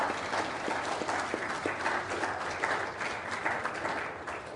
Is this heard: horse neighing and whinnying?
no